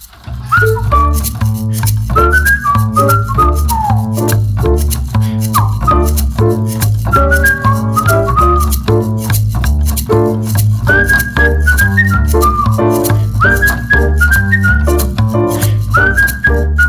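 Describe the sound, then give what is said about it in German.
A person whistles a little tune while walking down to the subway: a bright whistled melody hops through a short, lilting tune, steady and fairly loud, over a busy rhythmic backing with a constant low pulse for the whole stretch. “Ich ging hinunter zur U-Bahn und pfiff ein Liedchen.”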